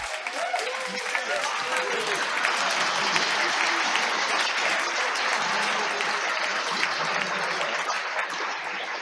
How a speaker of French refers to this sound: Bon, on fête. Alors, on applaudit, on a réussi.